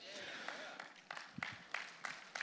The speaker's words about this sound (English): Go ahead. Get the clap out of the way.